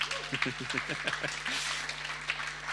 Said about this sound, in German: Danke. Applaus für unsere zwei.